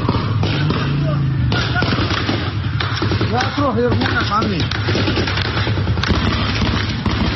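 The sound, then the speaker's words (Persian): Heavy machine gun fire crackles in dense, rapid bursts for the whole stretch, loud, with people shouting and crying out midway through; heavy-calibre machine guns firing into the reed beds of Mahshahr where protesters had taken refuge. “شاهدان عینی میگویند در شلیک به نیزار ماه شهر که معترضان به آن پناه برده بودند، از تیربار هم استفاده شده است.”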